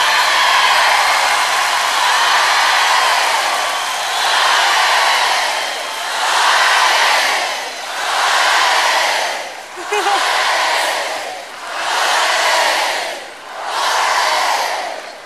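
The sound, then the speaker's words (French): A large audience applauds loudly and steadily for musicians, a dense roar of clapping and cheering that swells and dips in waves roughly every two seconds for the whole stretch. “applaudir très très fort cette magie de tous les musiciens qui sont ici ce soir.”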